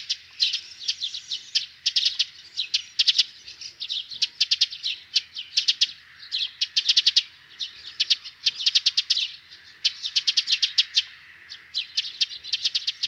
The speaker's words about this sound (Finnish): Poikaspesän lähellä pikkuvarpusen ääntely on kiihkeää tek-tek-tek ääntä.